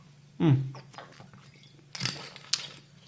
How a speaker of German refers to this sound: Ich bin immer noch ein bisschen angeschlagen, da muss ich immer ein bisschen schlucken. Immer noch.